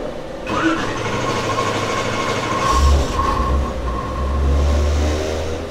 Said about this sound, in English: So that's the fans, the extraction fans.